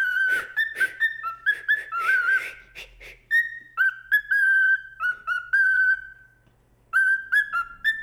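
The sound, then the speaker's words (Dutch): A pet budgerigar named Buk whistles a tune, clear sustained notes forming a melody with short trills and pauses, loud and alone without any talking. “Hij fluit en hij doet alles. Mag ik hem nog een liedje laten zingen?”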